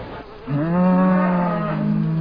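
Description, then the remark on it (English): A single long, loud dairy cow moo begins after a brief quiet moment and holds steady, deep and resonant, until the end. No one speaks. “A good dairy cow should have like 4.”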